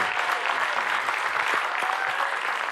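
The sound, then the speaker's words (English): Steady audience applause at High Ridge Longview, given for the spiritual family watching online; a dense, even wash of many hands clapping at once with no pauses, holding at a constant loudness throughout. “Hey, one more applause for our spiritual family watching online.”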